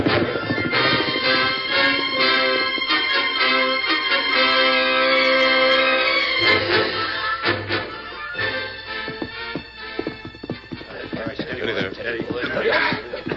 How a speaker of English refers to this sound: All right, on your horses, let's ride. Come on, get up there.